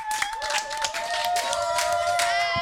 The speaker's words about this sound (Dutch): Ja, je hoorde hier bij mij in de studio de leerlingen van groep Blauw van het debatteam. Geef ze een heel groot applaus.